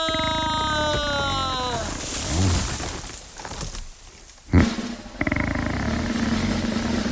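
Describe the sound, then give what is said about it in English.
A comic spider snoring sound effect made by a studio audio department and billed as the biggest snorer of the Gold Coast: a whistling tone slides downward over a rough rumble, then growling, pig-like snorts, a sudden thud, and a loud sustained buzzing snore to the end. “This is the biggest snorer of the Gold Coast.”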